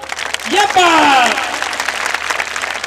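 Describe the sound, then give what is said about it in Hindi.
A crowd claps steadily throughout in welcome of a guest, a dense wash of applause, while a loud voice briefly rises and falls in a shout or cheer near the start. “भैया भाई साहब के स्वागत में बजिए तालियां, यू थी बात।”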